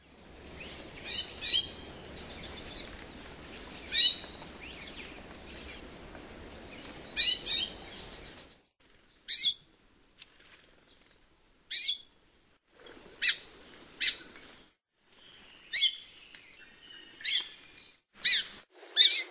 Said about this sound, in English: Amakihi call notes are variable in inflection, but all calls have in common a raspy, squawky, or buzzy quality. Here are five examples, beginning with the most often heard.